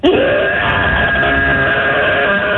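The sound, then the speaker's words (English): A 5-year-old child from Roswell, calling in to radio station B98.5, lets out one long, loud, raspy roar imitating a dinosaur, rising sharply at the start and held steady and harsh for a couple of seconds without a break. “Let's hear your dino roar.”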